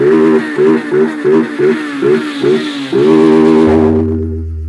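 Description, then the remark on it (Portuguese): A voice imitates the engine of an invisible motorcycle revving at full throttle in front of a paredão sound system, in a series of rhythmic bursts, then holds a long, loud sustained vroom that fades slightly at the end. “Em frente o paredão na máxima na minha moto invisível.”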